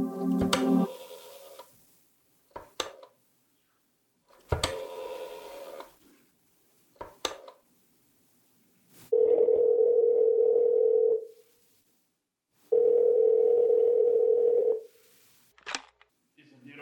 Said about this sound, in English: I drove down to the document research laboratory on Vanderbilt and got such a shock that I grabbed the office phone and dialed Wolf at once.